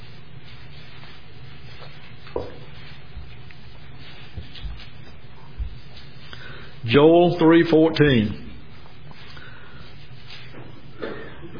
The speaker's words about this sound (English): I'm hearing pages turning, so I'm waiting on you.